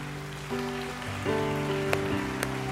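A crowd clapping their hands in praise to God in a steady, dense patter over sustained keyboard chords, with a couple of sharper individual claps standing out near the end.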